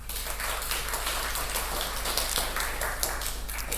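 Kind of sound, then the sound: crowd, audience applause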